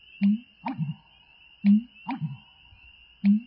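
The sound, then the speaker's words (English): An American bittern gives its low, gulping burp calls, made by swallowing air and then releasing it, a series of deep pumping notes repeated about every second and a half, with a faint steady hum in the background. “And an American bittern's comical burps are, well, burps, made by swallowing air and then releasing it.”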